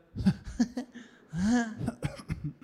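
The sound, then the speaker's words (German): A string of short, dry coughs, broken midway by a longer rasping, voiced hack before a few more quick coughs. No one speaks. “Und dieses sehr trockene Husten immer dieses.”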